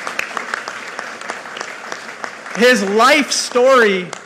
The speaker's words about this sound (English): First of all, can you give a big round of applause to the President for joining us today?